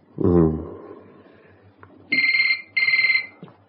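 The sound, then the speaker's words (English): A telephone rings at night in two short, warbling electronic bursts separated by a brief pause, fairly loud, following a brief low vocal murmur over a faint steady hum. “Who's going to be phoning at this time of night? Just switch the answer phone off.”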